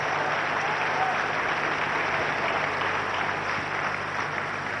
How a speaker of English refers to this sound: Shall we put our hands together and clap for the Lord Jesus?